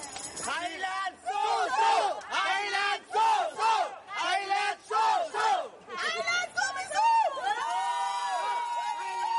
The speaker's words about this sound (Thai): รวมทั้งให้คำชมเชยกองเชียร์ไทยที่สามารถส่งเสียงเชียร์ดังไม่หยุดตลอด90นาทีถือเป็นสีสันโดดเด่นในการแข่งขันฟุตบอลหญิงชิงแชมป์โลกที่ประเทศแคนาดาในครั้งนี้นะคะ